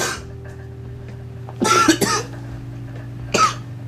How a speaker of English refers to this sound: Yeah, you need to quit coughing, it's your hit.